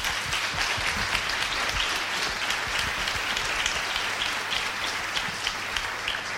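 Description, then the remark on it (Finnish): A seminar audience applauds the speakers steadily, dense overlapping claps sustained at an even level for several seconds, with no voices standing out. “Ja kiitoksia kaikille seminaarin alustajille. Ovat aplodit ansainneet.”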